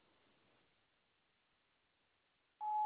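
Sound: answering machine beep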